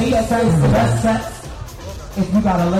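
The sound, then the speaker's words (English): At a costume ball and dance competition at the University of Chicago, a lone amplified MC voice calls out in a rising, sing-song cadence, answered by a loud mass of about 300 spectators chanting back together over a rumbling crowd hubbub. “An MC leads the crowd in a chant.”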